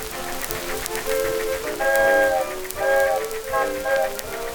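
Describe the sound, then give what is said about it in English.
A train arriving at a station with a steady rushing, hissing rumble, as a chord-like whistle sounds in several sustained blasts over the noise. “There's my train.”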